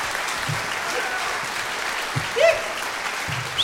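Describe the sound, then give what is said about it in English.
Hands clapping four times in a steady, hissy wash of applause, with a few slightly sharper claps standing out briefly; no one speaks. “Make clap four times and that's it.”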